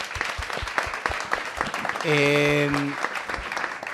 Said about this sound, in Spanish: Un aplauso, por favor, al diputado.